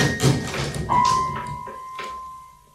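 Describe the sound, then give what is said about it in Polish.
A door is banged open with a loud clattering burst, followed by a long, steady high squeal and a few softer knocks as it swings, with no one speaking. “To po co pan drzwi rozwala?”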